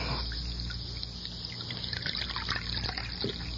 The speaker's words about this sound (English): Let me pour you some coffee.